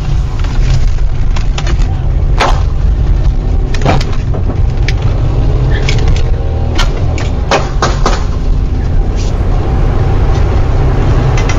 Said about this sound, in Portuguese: Eu contei pelo menos 6 disparos aí